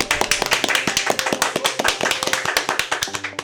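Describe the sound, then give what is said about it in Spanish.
An audience on the show Historias Maravillosas applauds steadily, many hands clapping in a dense, continuous patter of sharp slaps at a fairly loud, even level, with no voices over it. “para mí es un placer tenerte en Historias Maravillosas y por eso yo quiero pedirles a ustedes un aplauso enorme”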